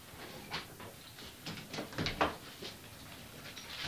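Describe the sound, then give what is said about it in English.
A door is pushed shut and locked: a series of short wooden knocks and metallic clicks clustered near the middle, fairly quiet, with no talking. “If you're going to get your stuff, I'll go ahead and lock your door.”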